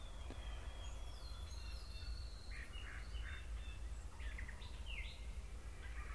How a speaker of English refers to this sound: And you can hear that the gobbler sounding off, and there's an echo to it. That's because they're way down in the bottom.